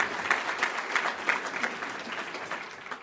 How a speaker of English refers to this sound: Let's give them a big round of applause for all they do.